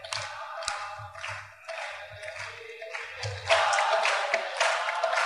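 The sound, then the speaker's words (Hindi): A crowd claps along in a steady rhythm over a low, pulsing musical beat during a chant of 'Jai Jai Radhe, Jai Jai Shyam, Jai Jai Shri Vrindavan Dham', the clapping swelling into a louder, denser wash partway through. “सब ताली बजाएं.”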